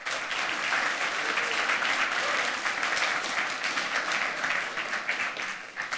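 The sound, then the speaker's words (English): Sustained applause from a large audience welcoming a speaker before a talk on attacking the GSM software stack, a dense wash of many hands clapping at steady loudness for several seconds, without pause or voices on top. “So please give him a warm round of applause.”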